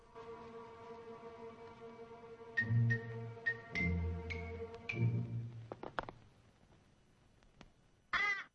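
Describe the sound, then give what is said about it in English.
A crow caws loudly several times in harsh bursts, the calls clear over a low steady drone, ending with a sharp sudden clatter. “He scowls back up at the loquacious bird, then picks a rock up from the ground and chucks it.”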